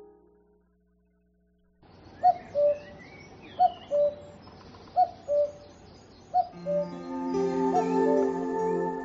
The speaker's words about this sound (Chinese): 布谷鸟叫了，它就是我的牵挂。